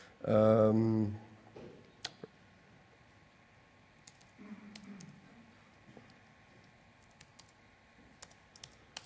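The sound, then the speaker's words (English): Scattered, irregular clicks of typing a command on a notebook keyboard, after a short burst of a man's voice at the start; a faint murmur sits under the keystrokes midway. The notebook is connected by a DTV trans cable to the joy port of a DTV. “Okay, I have to run a command on my notebook, wait a moment.”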